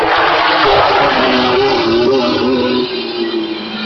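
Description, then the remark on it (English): Lancia rally cars roar loudly on a rally stage in dense woodland, engines revving up and down as they slide their rear ends in controlled fashion, over a constant rush of gravel and tyre noise, with no voices. “Oh, classic Lancia heaven. And very famous Scandinavians losing the back ends of their cars in controlled fashion.”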